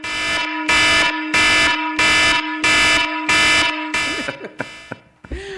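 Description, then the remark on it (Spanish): A loud, brassy alarm horn blares in six evenly spaced bursts, a steady pulsing warning pattern, before it cuts off and a brief voice begins at the very end. “Primera señal de alarma.”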